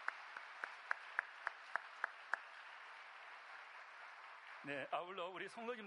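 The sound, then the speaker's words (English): Steady, evenly spaced hand claps, about nine in a row, applauding a woman's service, sound fairly thin, then stop; after a short pause a man's voice begins speaking. “Let us give applause for her service.”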